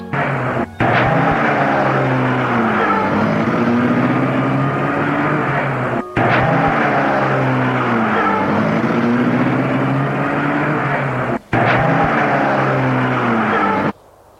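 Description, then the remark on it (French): A car engine runs loud, a steady droning rumble with a low hum, broken by a few brief dropouts, with no voices, as a man in the driver's seat starts the car with the keys. “Il met la voiture en route.”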